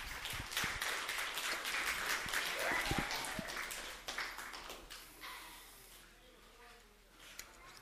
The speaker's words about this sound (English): Everybody give the kids a round of applause.